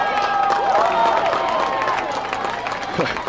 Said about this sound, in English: Boy, that's the loudest applause I've heard in a while from the Glenwood side, and it's for a penalty.